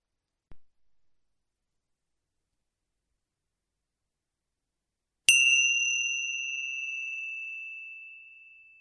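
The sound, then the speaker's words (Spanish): A single clear strike of a small meditation bell, signalling the start of a vipassana meditation, rings out after a brief soft tap, its bright pure tone sustaining and slowly fading over several seconds in an otherwise silent space. “Prepárate para cerrar los ojos y al sonido de la campanilla comienza a llevar la atención a la respiración.”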